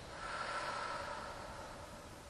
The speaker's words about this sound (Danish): tager vi en dyb indånding ind igennem næsen og helt ned i sædet. Og så puster vi ud igennem munden.